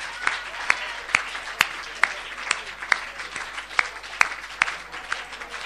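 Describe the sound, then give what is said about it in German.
Dense audience applause fills the whole stretch, a steady hiss of many hands with sharper individual claps cracking through at a fairly regular beat. No one speaks over it. “Und dann zwischenzeitlich auf jeden Fall nochmal einen großen Applaus bitte auch an Julian, der hier zwischendrin immer wieder Klavier gespielt hat.”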